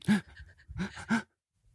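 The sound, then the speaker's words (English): A breathy, voiced sneeze sequence: a sharp gasp, a brief pause, then two quick forceful bursts, ending in silence. No one speaks. “One was, I have to sneeze. Hold on.”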